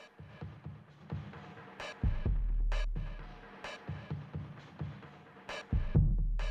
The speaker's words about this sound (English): That's the snare sound right there. Great tune, great album. So they've slowed it down there a little bit more from the original recording, you know, it's kind of a bit more trippy, you know?